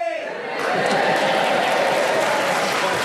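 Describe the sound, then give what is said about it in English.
A large Surrey audience at the Rose Theatre in Kingston upon Thames, at a recording of the show Just a Minute, breaks into loud, sustained applause with some cheering, a dense wash of clapping that swells in after a brief moment and holds steady to the end. “And as you can hear, we have a fine, vociferous Surrey audience here, ready to cheer us on our way”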